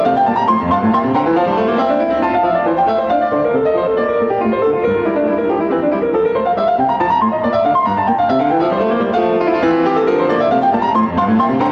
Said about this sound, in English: Here's the Italian Concerto, a keyboard piece by Bach played on the piano.